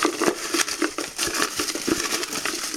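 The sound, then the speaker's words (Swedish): Dry papery rustling and crinkling with quick irregular rattles as carefully folded paper slips are shaken around inside a golden trophy cup for a prize draw, steady and fairly busy throughout with no voices. “Jag tar den gyllene pokalen och skakar om och stoppar ner handen och drar en papperslapp som är noggrant ihopvikt också.”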